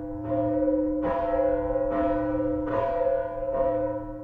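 The oldest dated cast bell in Germany, weighing one tonne and dated 1038, tolls from the Katharinenturm of the abbey church ruin in Hersfeld, Hesse; its deep, sustained hum rings continuously while fresh strikes land roughly once a second, five clangs in all, full with no voices.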